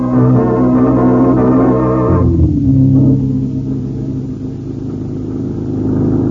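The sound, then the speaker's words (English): A loud car engine revs hard with a steady harmonic roar as the car heads for the highway in pursuit of someone, drops pitch around a gear shift, then settles into a low rumble that builds again as the car accelerates. No voices. “Hit the highway. Maybe we can catch him.”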